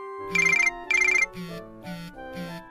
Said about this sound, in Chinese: 这时阿公手机响了，是阿嬷打过来的。